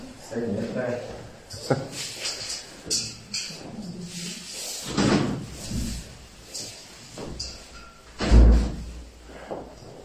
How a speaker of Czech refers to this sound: Otevřené dveře. Dobrý nápad, jo. Otevřeme okna.